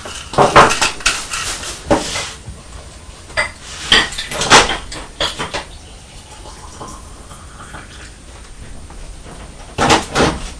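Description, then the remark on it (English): Clinks and clatters of a china teapot and cups being handled while making tea, sharp irregular knocks in bursts with quieter gaps between, no talking. “We put a tea bag into the teapot and we pour on boiling water, don't we?”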